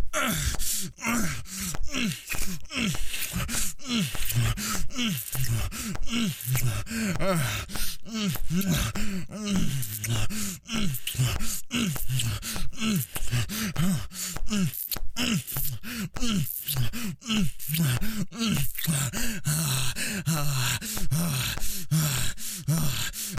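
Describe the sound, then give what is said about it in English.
A voice moans and gasps continuously, with breathy, rising and falling moans and quick sharp intakes of breath repeating throughout, no words spoken. “Every gasp and moan that escapes your lips.”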